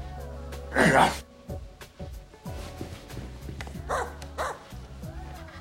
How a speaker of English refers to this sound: You were barking. Well, I'm excited. You know, when I get excited, I start making all kinds of sounds. You never barked before.